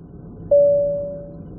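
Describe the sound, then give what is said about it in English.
A single soft electronic chime of an aircraft passenger call bell, pressed on a plane, strikes once and rings out in a long fading tone over a faint low hum of cabin noise. “If there's a doctor on the plane, could you please press your call bell?”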